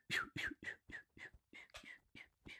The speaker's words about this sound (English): I can't see them, but I can hear the beating of their Those are the flight feathers there, aren't they? Whistling in the wind. Yeah, yeah. They come. Oh, there we go. Here they come. Majestic birds.